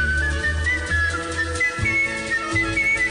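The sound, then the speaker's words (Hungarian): A person whistles a wavering melody over steady low instrumental accompaniment, the whistled tune clear and moderately loud throughout with no talking. “Na, hát figyelj, azért nem pite, hogy nekünk van egy fücsművészünk.”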